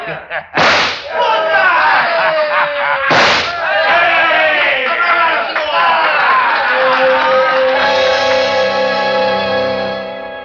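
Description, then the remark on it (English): Two sharp, loud gunshot cracks ring out a few seconds apart, each with a short echoing tail, fired at the coal buttons on a giant snowman standing on a lawn, followed by a crowd of voices cheering and shouting. “I'll blast every lousy button off his lousy shirt. Hey, great shot,”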